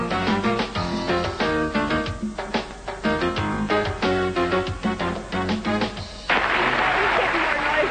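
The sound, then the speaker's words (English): Upbeat music plays for several seconds, then cuts to a loud, steady burst of cheering and applause from a large studio audience of The Price is Right game show on CBS, filling the last couple of seconds. “Why do they cheer you on?”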